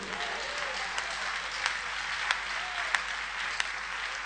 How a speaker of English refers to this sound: Give a clap for Jesus.